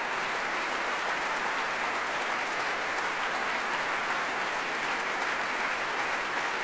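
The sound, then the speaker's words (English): Sustained, dense applause at the BBC Proms, a steady wash of many hands clapping at an even loudness throughout, with no voices standing out; the orchestra and conductor Kirill Karabits applaud pianist Sanuk Kim, the orchestra rising to their feet. “Conductor Kirill Karabits is waving his baton in the air and clapping as conductors do on his podium, and the orchestra applauding Sanuk Kim as well and coming to their feet.”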